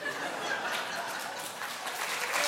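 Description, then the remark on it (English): An audience at a live song performance claps together in a steady, dense patter of many hands that holds at a moderate level for a couple of seconds, with no voices heard. “Don't clap.”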